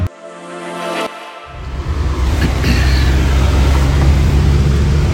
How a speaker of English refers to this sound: Currently live in a car in Lombok. Oh. I don't know if you can hear the wistful air conditioning blasting at us.